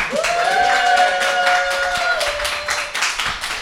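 A crowd breaks into steady applause, dense clapping filling the space at close range, with a few whoops or cheers riding over it before it starts to thin out.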